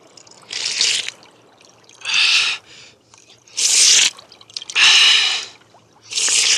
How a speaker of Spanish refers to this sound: Huancarumi rogó al dios Sol con tanta fe que al instante, de una de las rocas, comenzó a brotar agua abundante, cristalina.